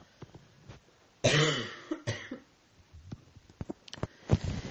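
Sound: coughing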